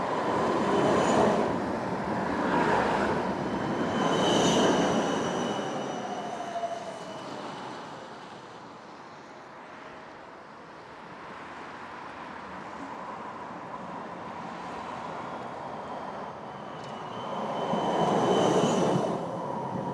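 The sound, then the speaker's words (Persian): An electric street tram running on rails along the street surface rolls past, its wheels rumbling and squealing on the rails, with a few bright metallic 'ding ding' bell rings near the start and again at the end. No one speaks. “خود این ترام ها چین ماشینه برقیه که رو خیابون رد میشه، ولی ریل داره، این قطار ریل داره ولی برقیه و روی سطح خیابون رد میشه، بنابراین مترو نیست. این ترام دینگ دینگ دینگ دینگ یه زنگ خاصی هم داره، رد میشه مدام.”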